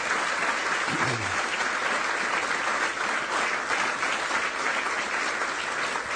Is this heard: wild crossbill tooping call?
no